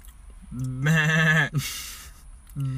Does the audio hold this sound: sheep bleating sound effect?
yes